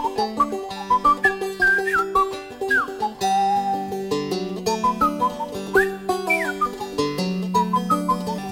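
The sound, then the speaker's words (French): A bright, bird-like whistled tune standing for a jay whistling, with quick sliding notes and short trills, played over a steady backing of sustained low instrumental chords, clear, with no talking. “Un jet le voyant passer fait « C'est une chanson pour les oiseaux, dit-il. » Et il siffle à son tour.”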